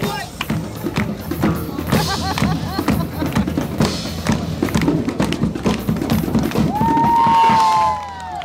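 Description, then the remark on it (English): Dense crowd murmur of many overlapping voices from a huge crowd gathered around a street performer in a park, scattered with sharp taps and thumps throughout, and a sustained high call or whistle rising over the chatter near the end. “And there's a performer over there, which I can tell by the fact that there's a huge crowd gathered around, but I can't tell who it is or what they're doing.”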